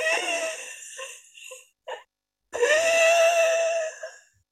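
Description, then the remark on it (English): Labored, strained breathing of a woman with a rare, severe pneumonia, with a voiced, moaning, whimper-like tone: a long groaning breath, a few short catches and gasps, then another long drawn-out moan. Fairly loud, with no talking. “And that was her trying to take all the breaths that she possibly could.”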